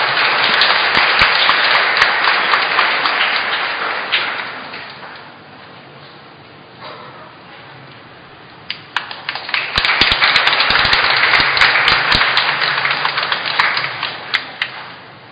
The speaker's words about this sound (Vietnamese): Xin cộng đoàn cho chàng vỗ tay chúc mừng.